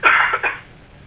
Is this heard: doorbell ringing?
no